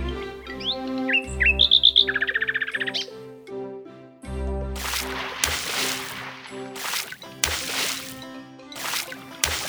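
Bright, high bird chirps and a quick run of rapid tweets fill the first few seconds over sustained tones, then give way to louder, noisy bursts that sound like splashing.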